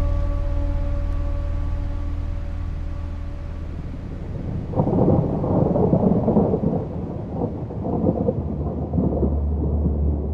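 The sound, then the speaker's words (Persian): Rain patters on a car windshield as the wipers push the raindrops aside, over a low, steady engine hum, the drumming swelling noticeably about halfway through and staying heavy to the end, with no voices. “برفاکن قطره های بارون از روی شیشه ماشین بهمن کنار میزنه”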